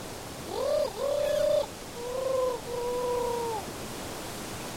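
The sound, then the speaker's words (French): A voice imitates a turtle dove cooing at the Roche Percée: two pairs of drawn-out, hollow tonal coos, the first pair rising then steady, the second softer and slightly falling, with no talking. “tentative de tourterelle à la roche percée.”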